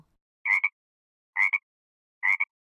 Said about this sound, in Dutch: Een kikker.